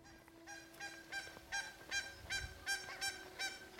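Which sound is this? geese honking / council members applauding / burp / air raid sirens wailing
geese honking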